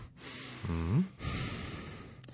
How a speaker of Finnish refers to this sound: Nyt tähän väliin raskasta hengitystä.